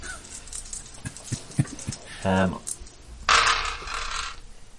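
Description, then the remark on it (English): Three dice clatter on a hard surface, a quick run of sharp clicks and rattles, followed by a short honk-like tone and a brief burst of rustling noise. “I got 3 dice.”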